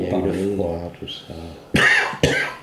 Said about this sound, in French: Ça va mieux avec ta toux ? Moi, je crois que c'est à cause parce que tu parles beaucoup, c'est un métier où tu dois beaucoup parler.